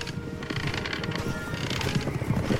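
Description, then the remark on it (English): Horses galloping, a dense, rapid clatter of hoofbeats with a steady rhythm that swells slightly louder toward the end, with no voices. “Horses. We've been found.”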